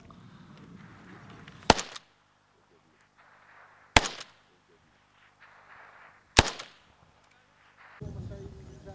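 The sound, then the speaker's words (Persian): Three sharp, loud gunshots ring out at roughly two-second intervals, each a sudden crack with a brief echoing tail, separated by quiet stretches with faint background noise. Kurdish Peshmerga forces fire toward Islamic State militants on the Bashiqa front in Iraqi Kurdistan, 800 metres from the militants' earth berms. “نیروهایی که تحرکات شبه نظامیان را رصد می کنند و گاهی با دیدن حرکتی به سمت آن شلیک می کنند.”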